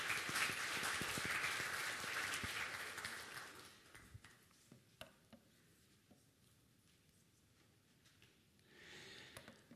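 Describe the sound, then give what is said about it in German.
An audience breaks into dense, sustained clapping that fades out after a few seconds, leaving scattered individual claps, then a brief swell of applause returns near the end. “Könnt ihr denen Applaus geben?”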